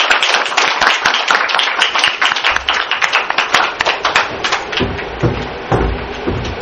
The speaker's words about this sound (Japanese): 皆さんご拍手をお願いいたします。